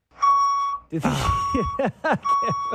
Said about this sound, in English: Don't back up the truck in my ear.